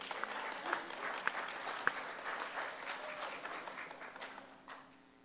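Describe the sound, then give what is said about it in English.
A crowd applauds steadily for about five seconds, dense clapping with a few sharper individual claps standing out, then gradually thinning and fading toward the end, as a convention audience applauds its board and chair. “A bigger round of applause, please.”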